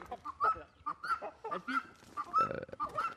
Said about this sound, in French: Il y a une poule qui s'est sauvée là.